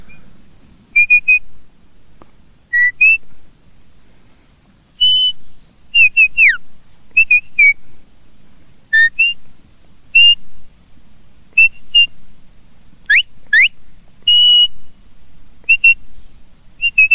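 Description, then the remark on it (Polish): A man whistles a bird-like song, a series of bright, sharp chirps and quick rising and falling trills in short bursts, loud, with no talking. “Proszę Państwa, to nie jest żaden ptak. Nie, to jest ptak. Rara avis. Biały kruk. To klasa mistrzowska, bym powiedział.”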